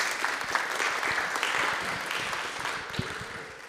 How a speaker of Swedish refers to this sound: En applåd för konfirmandrarna.